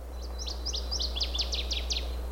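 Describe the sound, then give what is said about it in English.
A tail-pumping waterside songbird sings a quick run of about nine high, clear slurred notes, the later ones sliding downward, over a steady low hum. “But this is a very distinctive voice, very distinctive song.”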